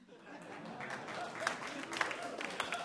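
An audience claps for the announcement of a game called We Hate Bagginses, a line from Tolkien's Lord of the Rings, in a steady wash of applause, dense and moderately loud, with a few sharper individual claps standing out over the rest.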